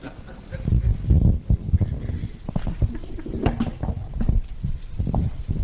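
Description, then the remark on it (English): A chair is carried out and set down: a run of irregular wooden knocks, bumps and clatters with heavy low thuds, fairly loud, over a steady background rumble. “Now, looks like a chair. Sounds like a chair.”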